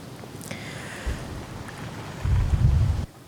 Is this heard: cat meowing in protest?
no